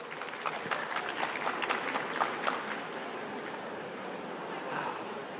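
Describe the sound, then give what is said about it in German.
A small crowd at a quiz claps steadily for about five seconds for a winner given a notepad from the Harajuku Megastore, a dense patter of many hands with scattered sharper claps, fairly quiet overall and tapering slightly toward the end. “Kleinen Applaus bitte.”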